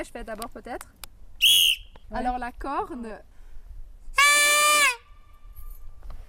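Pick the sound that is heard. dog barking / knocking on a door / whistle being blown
whistle being blown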